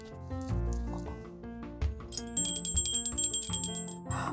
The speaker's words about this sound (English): It's the ice cream truck, Abuela Rosa says.